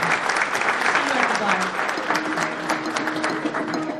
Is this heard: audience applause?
yes